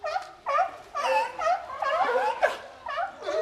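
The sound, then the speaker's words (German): A series of harmonic, wavering seal calls played through loudspeakers, rising and falling in pitch, about seven bursts in quick succession, barking and yelping, resembling laughter. No talking. “Ah, warte, Seehunde, Robben?”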